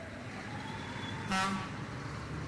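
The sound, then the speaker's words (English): Steady, muffled street traffic rumbles throughout, heard through an open window, and midway a single short car horn honks, briefly rising above the background hum. “Sorry if you can hear the cars or whatever. All this talk of wind, I had to open a window.”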